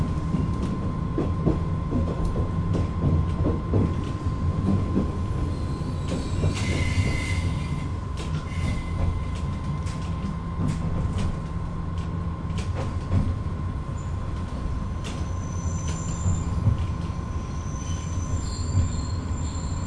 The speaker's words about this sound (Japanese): お待たせいたしました。この列車は後乗り前寄りの大原行きワンマンカーです。ご乗車の方は整理券をお取りいただき、中ほどにお進みください。